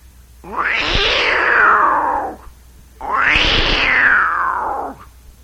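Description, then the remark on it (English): Two long, loud yowling cries, each rising then sliding down over about two seconds with a short pause between, voiced by a person imitating a Florida wildcat at a folk festival in Florida, with an echoey, processed quality. “And a little bit of Florida Wildcat, the Wampus Kitty.”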